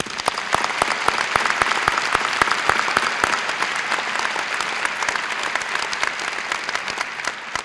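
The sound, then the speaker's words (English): A crowd applauds the graduate students steadily, many hands clapping in a dense, continuous patter at fairly even loudness for several seconds, with no voices rising above it. “Please join me in applauding the outstanding contributions of our graduate students.”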